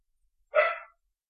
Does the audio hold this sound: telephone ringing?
no